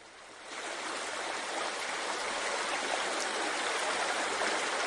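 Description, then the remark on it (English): A steady, loud rush of running water like a babbling brook, played by an SU1W sound therapy machine, swelling in after a brief quieter start and then holding constant with no voices. “Babbling brook.”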